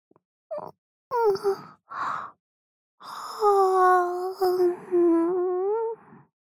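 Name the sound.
yawn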